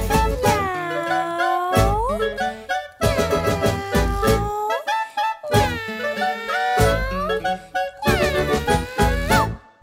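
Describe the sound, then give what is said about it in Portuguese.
Four long, drawn-out meows, apparently sung by a voice imitating a spotted kitten as it goes away, each bending in pitch and rising at the end, with steady musical accompaniment underneath. “O gatinho malhadinho vai embora dizendo assim.”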